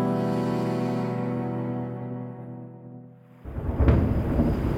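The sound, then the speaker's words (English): Thunder under gathering storm clouds: a deep, sustained rumble slowly fades, then a sudden loud crack of thunder breaks into a rough, rolling boom. No voices are heard. “Under gathering storm clouds and still a half day's ride from Big Timber and the Boulder River”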